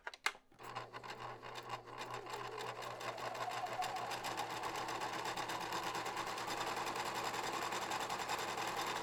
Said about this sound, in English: How fair is your knitting? Or not knitting, sewing. Yes. With the machine thing.